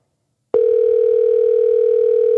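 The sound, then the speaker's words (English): A steady telephone dial tone begins abruptly after a brief silence and holds at constant loudness, a continuous mid-pitched hum with no talking over it, as a show host places a call to reach the mayor of Oak Grove, Tony White. “Let's try to get our second caller on the phone.”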